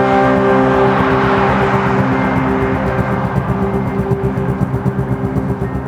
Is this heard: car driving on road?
yes